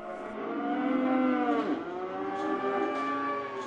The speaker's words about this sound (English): market employees shoo cattle into pens to be sorted for auction